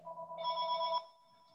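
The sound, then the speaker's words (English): A telephone rings once with a bright, steady electronic tone that holds for about a second before cutting off abruptly, clear with no one talking. “Here, I'm going to terminate that phone.”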